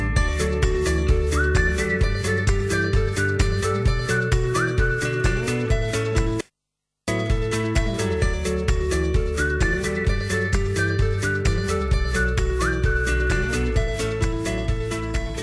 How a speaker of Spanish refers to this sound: Me alegro mucho que haya alguien que tenga tiempo para silbar, para tomarse la vida con tranquilidad,